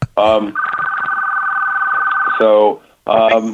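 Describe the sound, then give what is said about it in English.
A telephone on another line rings with a single sustained, warbling electronic tone lasting about two seconds, fairly loud, with brief bits of a voice just before and after. “Sorry, I have another line that's kind of ringing true.”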